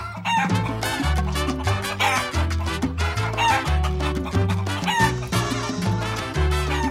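A rooster crows repeatedly over loud, upbeat music with a steady bass line and driving percussion; the crows sit in the mix rather than standing alone.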